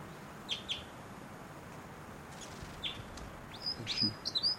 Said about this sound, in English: Maybe, oh, this is the female actually. And, wild bird. Wild. Wild bird. It might be the male in the back, but those flight calls were the female.